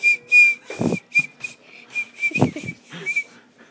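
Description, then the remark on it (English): A child whistles through the gap left by missing top front teeth in short, breathy bursts: a thin, steady high note heavily mixed with airy hiss, repeated several times, with a couple of soft thumps between. “All right, let me hear your whistle now that you don't have any teeth on the top.”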